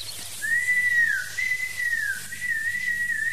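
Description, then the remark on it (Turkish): A person whistles a wavering, warbling tune in imitation of a nightingale's song, steady and fairly loud for a few seconds, with a faint low hum underneath and no talking. “Aman hoca, bu senin bülbül ne biçim ötüyor böyle?”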